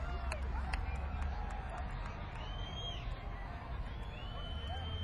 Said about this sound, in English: I don't usually like to just acquiesce when people are shouting for things, but there's a huge group of people here shouting, enough with the monster hits, play us some more stuff from your new record.